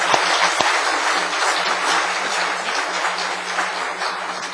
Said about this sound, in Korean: 성가대 찬양 잘했죠? 뜨겁게 한번 박수합시다.